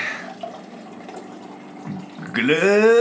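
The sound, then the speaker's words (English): Tap water runs steadily, then pours into a glass with a clear, rising ringing pitch as it fills over the last second. “I need to get some water. Hold on.”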